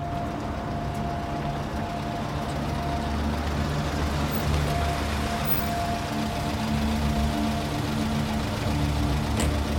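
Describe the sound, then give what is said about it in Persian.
A car engine runs steadily, a low rumbling idle with a constant hum that neither rises nor fades across the whole stretch; the car has driven into an alley and stopped in front of a house. “محب با ماشین میاد توی کوچه، جلوی خونه بهروز میسته.”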